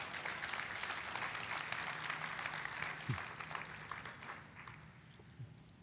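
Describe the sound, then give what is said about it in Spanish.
An audience claps together in steady, dense applause for the Lord for his word after a scripture reading, holding strong for several seconds, then thinning and fading toward the end. No one speaks over it. “Le damos un aplauso al Señor por su palabra.”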